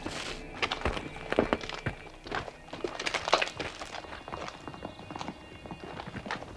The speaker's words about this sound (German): Hufschläge. Das sind Hufschläge. Hört ihr das? Ja. Mein Gott, hört ihr das?